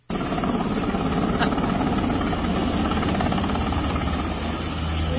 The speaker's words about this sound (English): That's a Black Hawk helicopter destroying a supply zone in North Carolina.